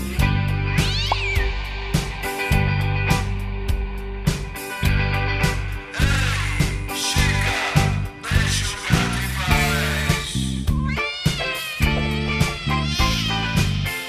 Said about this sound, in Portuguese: Não vamos traumatizar o coitado do animal. Eu só joguei o pau no bicho pra ouvir o miau.